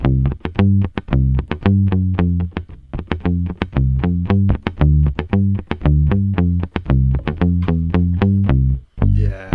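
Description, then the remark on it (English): A six-string bass with tight string spacing plays a quick, steady run of plucked low notes, each attack ringing into a splashy spring reverb. The playing is loud, with no voices. “And so used in the 60s for tic-tac bass, like, right, where there'd be an upright playing and then the bass player, so there'd be upright bass playing and then there'd be someone on bass six playing, maybe without all the spring reverb.”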